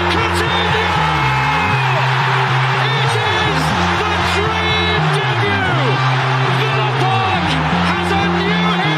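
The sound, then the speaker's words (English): A loud football stadium crowd roars and claps continuously after a goal, a dense wall of cheering and whoops with low, stepped chant-like tones running underneath throughout. “That's a big clap, mate.”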